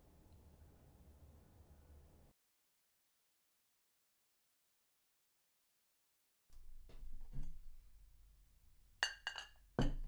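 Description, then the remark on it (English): Cups clink while a hot drink is prepared: a low hum fades to silence, then soft clatter and handling noises build into several bright, ringing clinks near the end. No one speaks. “I could get you something hot to drink and we could relax together.”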